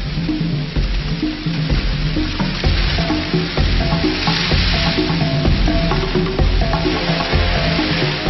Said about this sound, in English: This home video recorded early this month shows hundreds of thousands of the little pests which have reached hopper stage. Never been this thick, not around a house and through the yards. It just moved like the ground was alive.